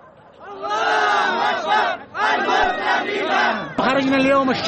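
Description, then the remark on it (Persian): A large protest crowd in Yemen, condemning escalating US-backed military attacks and the continued economic blockade, chants loudly in unison, many voices rising and falling together in rhythmic bursts, with a short pause before each new shouted phrase. “امروز به تظاهرات آمدیم تا تشدید حملات نظامی تحت حمایت آمریکا و ادامه محاصره اقتصادی را محکوم کنیم.”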